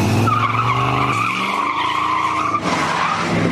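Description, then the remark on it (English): A car peels out at the beginning of a dating video, with a sustained, high-pitched tire squeal over a roaring engine, loud and continuous for several seconds, with a brief shift midway and no voices. “I mean, anyone that does a peel out at the beginning of their videos, their dating videos, yeah, has got an issue.”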